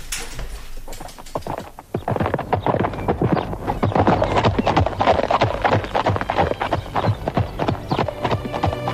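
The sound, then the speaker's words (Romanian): Steady clip-clop of horse hooves on a hard road, a quick, regular rhythm of sharp knocks that starts lightly and grows fuller, with no one talking; a rider setting off on horseback on the road toward Iezer. “Ia, haidele, pușca, tolba, calul și la drum, spre Iezer.”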